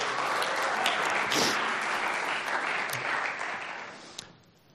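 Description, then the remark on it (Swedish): A crowd claps steadily in a dense, continuous wash of many hands, holding strong for about four seconds before quickly thinning and fading out. “kan jag ge honom en applåd om ni vill.”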